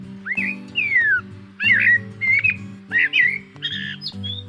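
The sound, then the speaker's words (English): A Eurasian blackbird sings loud, fluting whistled phrases in four bursts with short pauses between, close and clear, over a low, steady tonal background. “It's the song of the Eurasian blackbird.”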